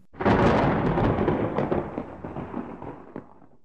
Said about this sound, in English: Suddenly, I saw a flash through the blind. It was lightning. Sure enough, a few seconds later, the thunder rumbled in the sky.